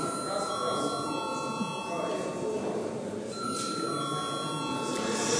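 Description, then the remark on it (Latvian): A continuous electric bell rings steadily for several seconds, a sustained metallic tone calling deputies to a vote in a parliamentary session, over the murmur and shuffling of many people. “Deputāti prasa balsojumu, lūdzu zvanu.”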